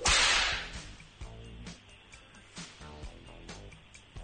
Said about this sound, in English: But the best way to break in a whip, to use the whip. That is the best way to break in a whip. Use the whip.